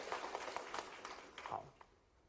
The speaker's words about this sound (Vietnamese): Hãy tự thưởng cho mình một tràng pháo tay khích lệ.